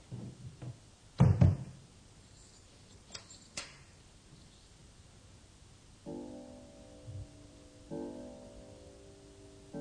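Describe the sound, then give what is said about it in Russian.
Doors are shut at an exhibition with one loud thud, followed by a couple of sharp latch-like clicks. Soft sustained tones come in later, with no talking. “Закрывайте двери.”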